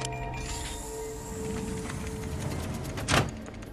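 door being opened

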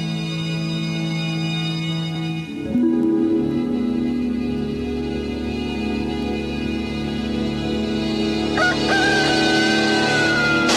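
rooster crowing

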